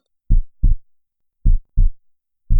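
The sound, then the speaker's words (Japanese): A loud, pounding heartbeat thumps in deep, muffled lub-dub pairs, repeating at a steady, fairly quick pace with silence between beats and no voices. “心臓がドキドキして破裂しちゃいそう？”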